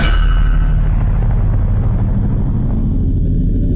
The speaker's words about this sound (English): Aimed right at the middle of that infuriating grate, the extra-strength Dark Explosion finally did the trick. It overwhelmed the anti-magic enchantment on the steel and the surrounding stone, blowing them apart.